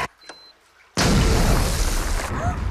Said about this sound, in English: freezes as Annabelle triggers the explosion